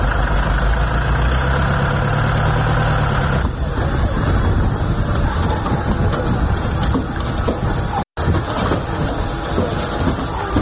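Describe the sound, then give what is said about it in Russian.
A truck engine idles with a steady low rumble and mechanical hum that runs unbroken for the whole stretch, apart from a momentary cut near the end, while an old, lame horse is loaded into the back of the truck. “Ходити йому важкувато, і його ледве завантажують до кузова машини.”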